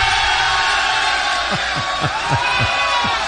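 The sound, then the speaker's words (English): A loud, steady roar of audience cheering and whooping fills the whole clip, joined midway by a run of about six rhythmic low thumps or bellows. “This is a rough crowd.”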